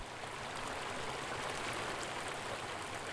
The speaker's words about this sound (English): For me, a run there meant a mind clear and cool, washed clean by the sound of running water streaming from Diamond Lake at the trail's end.